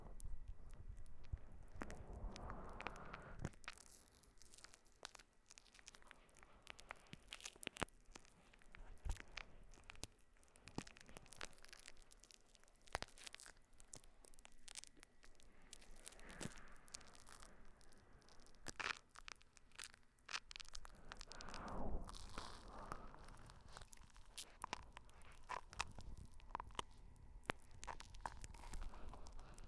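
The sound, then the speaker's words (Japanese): Soft, continuous squishing and crackling of fluffy foam lather being rubbed over the outside and inside of the ears, with irregular rustling bursts and faint crunchy textures throughout, no talking. “耳の外側も内側も、もこもこの泡でスベスベにしますからね。”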